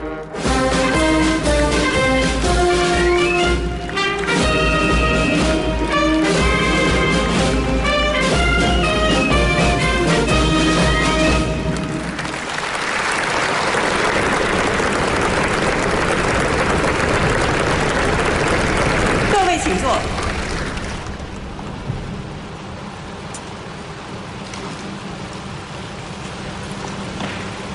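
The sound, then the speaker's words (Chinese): At the Hong Kong ceremony marking the 25th anniversary of the city's return to China, a band plays sustained, chord-like notes as Xi Jinping enters with John Lee. A long, dense wash of warm applause follows, holding steady before thinning into a quieter crowd murmur. No one speaks. “现在，中共中央总书记、国家主席、中央军委主席习近平在香港特别行政区第六任行政长官李家超的陪同下步入会场，现场响起热烈掌声。”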